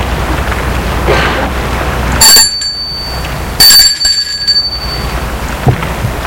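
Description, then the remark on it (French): A doorbell at the door of a parents' home rings twice, each a bright, metallic chime that fades quickly, set against a steady hiss like rain that continues throughout. “Demi-heure plus tard, Gilbert va sonner à la porte de ses parents.”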